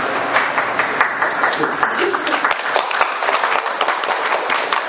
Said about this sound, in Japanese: まばらの拍手は元気です。